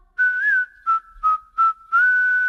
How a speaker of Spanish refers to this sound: Silbando al trabajar.